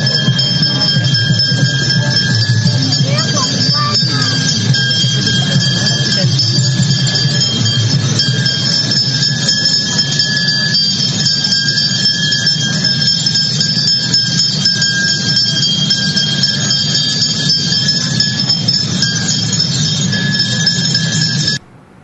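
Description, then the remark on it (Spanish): Bells ring loudly and continuously in a steady, shimmering clangor during a street performance by a group with bells before a march sets off, over the low rumble of a gathered crowd, then the sound cuts off abruptly at the end. “eso era lo que se está desarrollando ahora mismo, previo a la salida de la marcha, es la caída de las campanas”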